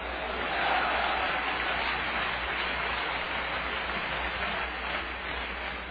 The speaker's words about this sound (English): Clap your hands and holler hallelujah.